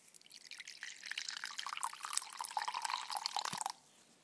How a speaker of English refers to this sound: Well, there's a teaspoon of yeast in here, and I'm just going to pour this water in.